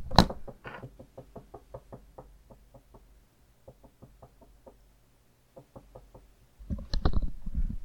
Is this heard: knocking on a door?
yes